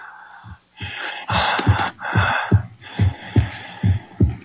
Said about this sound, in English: It's breathing.